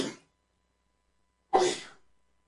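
A single sharp sneeze bursts out after a brief trailing breath, then fades into silence; no one speaks.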